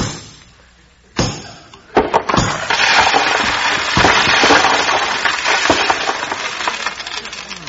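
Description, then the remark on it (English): A few sharp hammer blows drive a big, heavy nail into a plaster wall, then a loud, sustained crunching and crumbling follows as chunks break away, knocking a big hole in the wall, and debris rattles down, with no talking. “you knocked a great big hole in the wall.”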